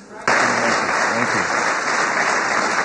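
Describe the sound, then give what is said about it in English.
A crowd breaks into loud, sustained applause for the President of the United States, dense overlapping claps and some cheering that start abruptly and hold steady throughout, with faint voices mixed into the noise. “Well, first of all, can we just give another round of applause to the President of the United States for his leadership on this issue?”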